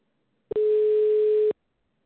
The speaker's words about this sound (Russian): Начинаем звонить абоненту. Ожидайте соединения.